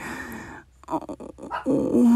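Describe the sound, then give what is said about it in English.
A dog growls low and rough, then breaks into a few short yelps before ending on a rising, drawn-out whimper. No one speaks. “Oh, fuck the dog.”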